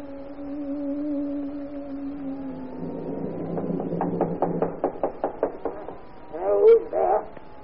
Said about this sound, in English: 30 years ago, I knocked at the door of this house.